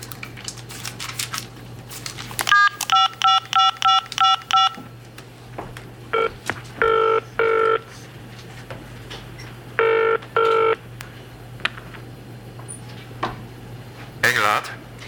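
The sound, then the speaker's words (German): A quick run of about seven steady touch-tone beeps as a phone number is dialed from the Raststätte Brönko rest stop, followed by the trilling rings of a telephone coming in short bursts, with pauses and faint background noise between them. “Oh, ja, okay, ist ja gut. Ich ruf ihn an.”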